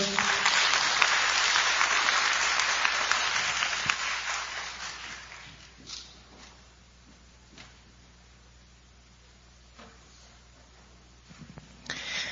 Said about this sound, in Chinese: 好，那接下来让我们用最热烈的掌声来欢迎今天的讲员